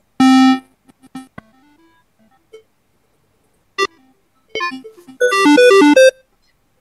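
Buzzy, hollow square-wave synthesizer tones: a loud held note, scattered short quiet notes, then a rapid run of bright bleeping notes that sound like an old video game melody, reminiscent of the Dendy game console.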